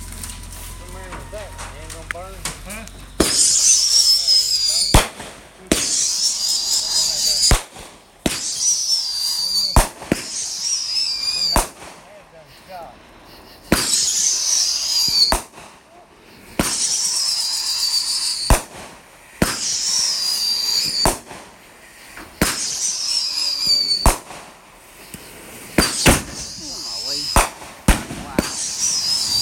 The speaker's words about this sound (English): Yeah, this raining leftover fireworks stuff.